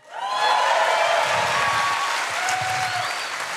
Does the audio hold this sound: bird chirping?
no